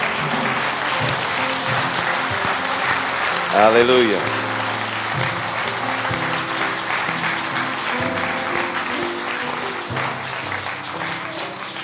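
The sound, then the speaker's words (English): A church audience claps continuously in praise of the Lord in the morning, a steady, dense wash of applause that fills the room, with scattered voices calling out over the clapping. “give the Lord a hand clap of praise this morning.”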